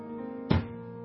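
The lead pendulum of a pendulum clock in the corner of a house drops to the floor with a single short, heavy thunk, stopping the clock; a dull low impact that fades quickly against a faint steady hum.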